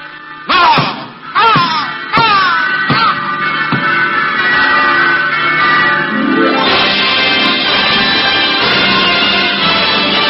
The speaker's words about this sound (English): Is that... Yes, Major. It's the church bell. Oh, no.